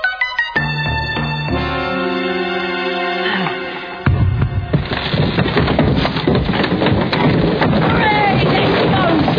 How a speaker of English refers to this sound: By thunder, he's rammed a hole from the wall.